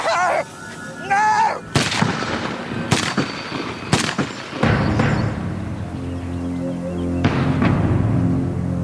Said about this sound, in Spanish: Aunque no lo bastante rápido, rápidamente el loco se abalanza sobre ellos y les dispara con una lluvia de balas.